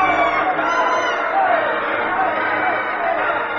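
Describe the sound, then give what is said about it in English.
A large crowd at a wrestling match between the Earl and King Cobra roars continuously, with screams and cheers blending into a loud, dense wall of voices that stays steady for the whole stretch without any break. “The crowd on its feet, screaming.”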